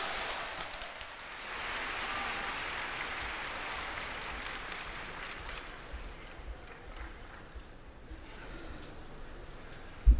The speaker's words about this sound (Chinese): 好，掌声有请。